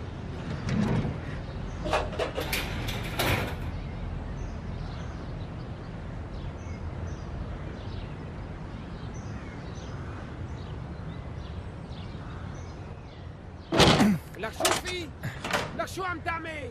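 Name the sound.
door being shut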